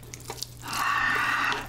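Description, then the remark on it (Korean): A few faint drips, then a steady stream of noodle cooking water pours for about a second into Buldak fried noodles, a bright splashing rush that tails off, with no talking. “면수를 조금 넣고 제가 좀 촉촉하게 먹도록 하겠습니다.”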